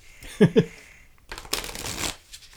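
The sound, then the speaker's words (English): A deck of tarot cards is shuffled: a quick papery riffle bursts out and rustles for about half a second, after a short vocal sound and some soft handling noises. “How do those shuffle? Amazing. Amazing. They shuffle brilliantly. This is a great deck for a great day.”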